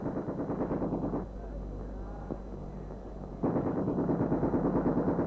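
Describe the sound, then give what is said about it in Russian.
Rapid, rattling gunfire in loud sustained bursts, fired from behind stacks of firewood that cadets turned into barricades in front of the Winter Palace, broken by a quieter stretch of low rumbling before the rapid firing resumes just as intensely. “Это стреляют из-за штабелей дров, превращенных юнкерами в баррикады перед зимним.”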